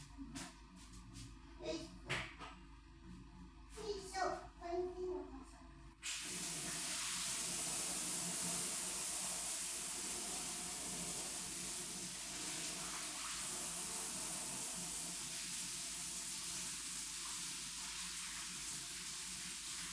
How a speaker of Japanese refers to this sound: お風呂をね、掃除しようと思って今。来るまでに。ちょっとさ、シャワー、でもちょっとさ、あれしちゃうから、濡れちゃうから一旦ここで待っててね。待ってて、ここで。シャワーしてくる。シャワーで掃除して、お掃除してくるから待ってて。